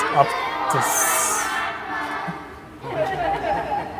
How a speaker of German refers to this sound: Hier ist ein Zug Kinder aufmarschiert mit Zugführer und ich glaube, es ist auch ein Offizier dabei.